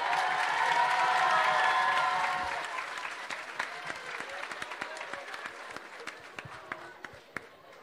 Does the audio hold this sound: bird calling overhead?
no